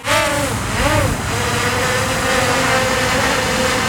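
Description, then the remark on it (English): A small camera drone's motors whine loudly as it flies over a yard with power lines running above it, the buzzing pitch wavering up and down briefly before settling into a steady, continuous drone over a noisy background. “Yeah, the drone flies well, but the control over where the camera is looking is broken.”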